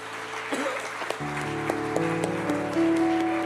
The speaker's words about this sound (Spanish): Demos un aplauso al Señor entonces.